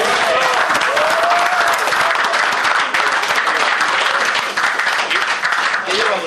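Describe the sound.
Sustained audience applause at a club gathering, honouring a supporter of the club: a dense, steady wash of many hands clapping at constant loudness for several seconds, with faint voices and a brief whistle-like tone mixed in.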